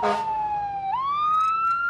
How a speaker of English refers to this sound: We pass by that fire engine you heard earlier.